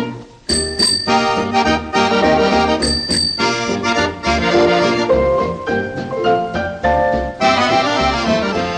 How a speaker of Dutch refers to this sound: Als ik tweemaal met mijn fiets bel, nou dan weet je het wel, nou dan weet je het wel. Als ik tweemaal met mijn fiets bel, dan betekent dat kom snel.